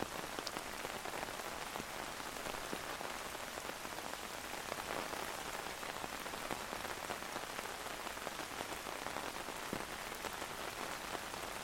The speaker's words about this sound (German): Du schnappst dir deinen Schirm, da der Regen weiterhin in beständigen Tropfen fällt. Und draußen empfängt euch wieder die frisch feuchte Regenluft.